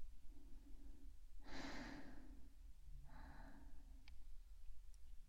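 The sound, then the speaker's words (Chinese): Muffled rubbing and scuffing noises of a small voice recorder being handled by a child at breakfast time, two soft breathy bursts a second or so apart, then a faint tap, with no talking. “吃完早饭再玩录音笔啊。”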